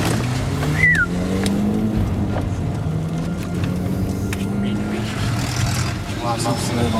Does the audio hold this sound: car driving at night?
yes